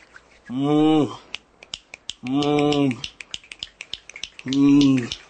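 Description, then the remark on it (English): Many sharp finger snaps crackle in an irregular, fairly quick patter, imitating heavier rain, while a voice makes three sustained vocal sounds between and under them. “And the rain gets harder. And it gets harder and harder on the ground.”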